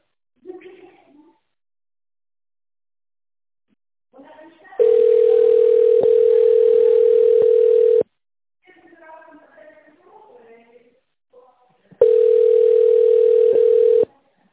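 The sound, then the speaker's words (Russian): A steady, single-pitched telephone signal tone on the Promsteklo company group's phone line, after which callers dial an employee's extension, sounds twice, each lasting a few seconds, loud and unbroken, with brief stretches of speech before and between them. “Если вы знаете внутренний номер нужного вам сотрудника, наберите его на вашем телефоне после сигнала.”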